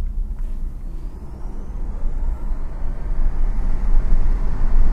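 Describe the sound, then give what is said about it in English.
Steady low rumble of a car driving at 30 kilometers an hour, with a thin, faint high-pitched whine slowly rising in pitch as the noise builds slightly. No one speaks. “Can you hear the whining? This is a very interesting car to drive.”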